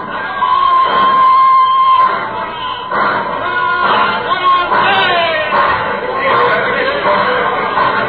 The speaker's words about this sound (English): Oh, a ruddy happy crowd out there at the station. Christmas. We still Christmas, despite the fact that most of them all want to get out of the town and go somewhere.